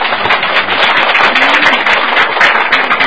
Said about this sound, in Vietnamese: đúng, cái từ đó rất giỏi, cho anh chàng pháo tay.